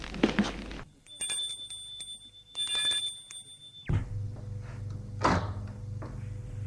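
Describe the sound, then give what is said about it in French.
An electric doorbell rings in a steady, buzzing tone for a few seconds, then stops; a door is opened with a clunk against a low hum of room noise. “Va sonner à sa porte.”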